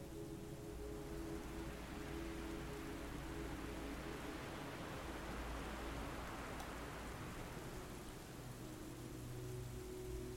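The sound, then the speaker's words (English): A steady, even hiss of light rain falling, with a soft patter spread evenly throughout and a faint low hum beneath. No voices, just continuous rainfall at a constant level. “Slowly, over time, you feel light speckles of rain on your skin, and find yourself in a flowery meadow on a dark and moody night.”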